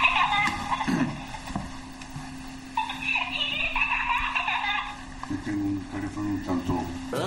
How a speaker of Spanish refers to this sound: Sí, y es que en lo que estaba sonando era el politono de su teléfono durante una recepción.